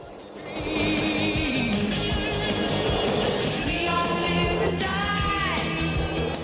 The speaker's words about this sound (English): Sitting on their boards, the boys shoot down a spiral slope in a multi-story car park. They speed around the corners.